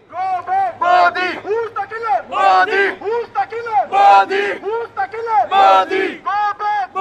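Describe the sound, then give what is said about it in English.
A large crowd of Muslims and Sikhs protesting Modi across the street from Madison Square Garden chants loudly in unison, repeating a short shouted phrase in a steady rhythmic cadence, with a constant low hum underneath the voices. “Across the street from Madison Square Garden, a crowd of Muslims and Sikhs held signs protesting Modi and the rise in Hindu conservatism they see him representing.”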